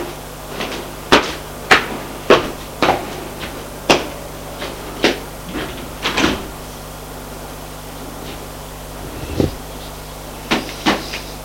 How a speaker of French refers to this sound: Frappe à la porte. Entrez! Le groupe de l'hôtel entre. C'est pour les bagages, madame.